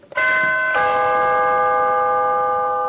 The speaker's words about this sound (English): And at the front door, you're going to ring the doorbell, and I will ring the doorbell.